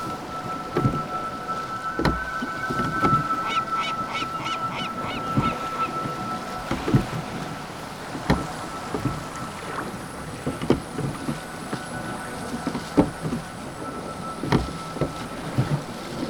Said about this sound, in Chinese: 自己控制着木筏，划呀划呀，划向了大海，找神仙去了。